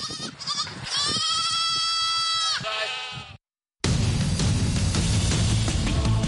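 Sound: goats and sheep bleating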